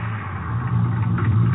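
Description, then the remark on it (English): A car engine runs with a steady, low idling rumble, continuous, its deep hum rising slightly in loudness partway through, with no voices, as the car stops on an empty highway near Odessa at almost 4 a.m. “Guess I can stop any place on this highway. Haven't seen another car in an hour.”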